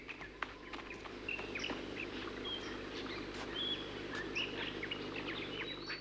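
Outdoor park ambience: a steady low background murmur with many short bird chirps and whistled calls scattered throughout, overlapping at varied high pitches, moderately quiet overall, no talking.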